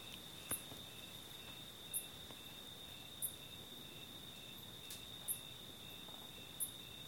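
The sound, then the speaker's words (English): Steady high-pitched cricket trilling fills a quiet night, with a few sharper clicks or chirps popping out roughly every second and a half; no voices, just a soft, constant insect drone. “know someone in New York who said she liked listening to my Dharma talks because of the crickets in the background.”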